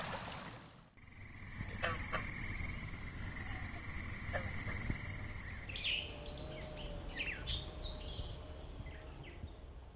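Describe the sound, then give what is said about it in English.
Nighttime ambience at a temporary pond near Tom's Creek, a New River tributary, in Montgomery County, Virginia: steady, high-pitched cricket or insect trilling layered with scattered frog calls and chirps, a continuous low natural hum underneath, no voices. “The sounds were at the New River, at Tom's Creek, a New River tributary, at a temporary pond near the creek, and at a seasonally wet channel that drains to the creek.”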